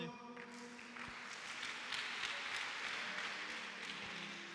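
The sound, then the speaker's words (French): A crowd applauds steadily for a few seconds, a dense wash of many hands clapping at moderate volume, with faint tonal sounds lingering underneath. “Applaudissons pour.”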